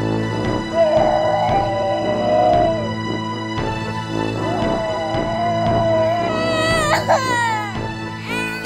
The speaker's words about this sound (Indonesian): Kok seperti ada yang menangis ya? Coba anak-anak dengarkan baik-baik. Siapakah yang menangis? Iya, benar sekali. Ada anak kecil yang menangis.